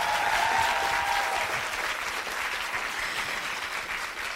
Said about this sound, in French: Applaudissez-vous, s'il vous plaît.